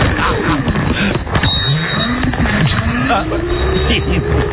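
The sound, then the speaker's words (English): A newer, keyless motorized mobility scooter in a Walmart store hums along and backs up with beeping, its electric motor whine rising and dipping in pitch, steady amid busy background noise. “This time I might defend it because you can hear the scooter.”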